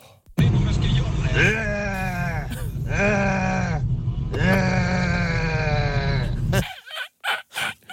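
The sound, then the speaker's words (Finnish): A person imitates a lynx call with long, wavering, bleat-like yowls, loud, in about three drawn-out stretches, followed by a few short voiced bursts. “Ilves karaoke käynnissä.”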